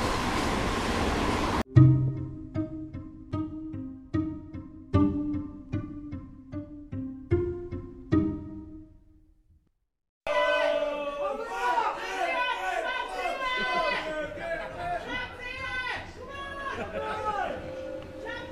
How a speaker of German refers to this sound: So, die U-Bahn ist da. Es geht los. Oh nein, es ist voll.